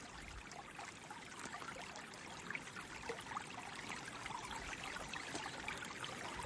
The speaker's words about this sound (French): Vous commencez à remonter le courant de cette rivière. Pas après pas, le clapotis de l'eau apaise votre corps et votre esprit.